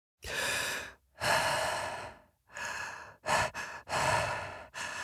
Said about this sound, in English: And then in Adrift, I'm an astronaut who wakes up in a space station that is destroyed, and I have to figure out what's happened and how to get home. And it's basically me mouth breathing for 6 hours.